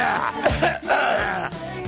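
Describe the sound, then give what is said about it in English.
A man coughs several times in harsh bursts, rough and throaty, with brief pauses between them and no talking. “Can a guy get a little cough here without”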